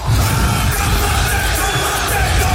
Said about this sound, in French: Donc restez bien attentifs, bien à l'écoute des GG, des grandes gueules, dès que vous entendez le haka des Néo-Zélandais.